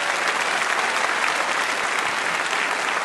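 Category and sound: crowd, audience round of applause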